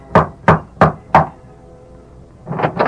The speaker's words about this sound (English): Tom Byerly rapped at the door of Mark Paulson's ranch house, then...